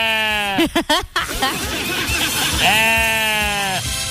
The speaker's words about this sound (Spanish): Oye, pero qué está como raro el burro, ¿qué le pasó? ¿De qué tipo de burro es este?